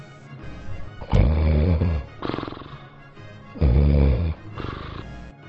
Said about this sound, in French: Je marche ensuite sur la pointe des pieds jusqu'à la chambre de mes parents. J'entends mes parents ronfler.